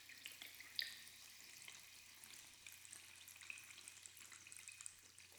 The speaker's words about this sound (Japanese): しっかり泡立ったこの炭酸シャンプーをお耳につけちゃいます。